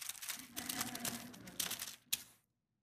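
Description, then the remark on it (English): Crisp, papery rustling of thin pages in physical Bibles being turned to look up 2 Corinthians 5:21, a couple of seconds of shuffling and flicking that ends in one sharp flip before falling silent. “This is why I like when people use physical Bibles, because I can tell if you're there when I stop hearing pages turning.”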